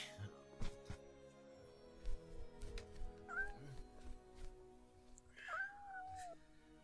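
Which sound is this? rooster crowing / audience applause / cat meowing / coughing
cat meowing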